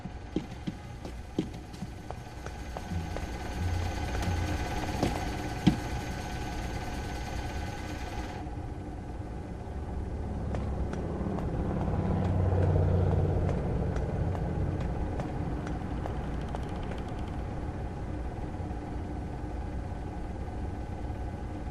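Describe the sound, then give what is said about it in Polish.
Engines run steadily during a routine engine check, with a low, continuous rumble and a broad hiss on top, swelling slightly midway before settling back to an even drone. No one speaks. “Sprawdzenie silników, kalibracja przyrządów, tankowanie, rutyna.”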